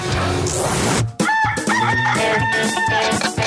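A rooster crows loudly on Radio Activa, a long drawn-out cock-a-doodle-doo with strained, wavering notes, set against a dense, noisy background with no talking.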